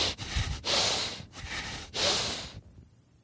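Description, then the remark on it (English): Four loud, forceful snorting breaths pushed through the nostrils in quick succession, each a rough, hissing rush of air, alone. A person produces them as an imitation of the heavy, angry breathing of God in wrath. “And the other word for wrath is nostrils, which means the heavy breathing of God.”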